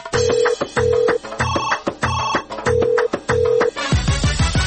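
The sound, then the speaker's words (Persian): A telephone rings in loud, evenly spaced electronic bursts, a bright tonal ring repeating about every half second before a short musical flourish closes it out, introducing Radio Azadi's listener phone line, open 24 hours a day. No one speaks. “تلفن رادیوی آزادی 24 ساعت در شبانه روز در خدمت شماست.”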